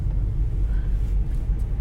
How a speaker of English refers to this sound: You can probably hear by the sounds around me, I'm behind a sports car and they think they're super awesome. So, you know, they're trying to like rev their engine while going 20 miles per hour like an asshole.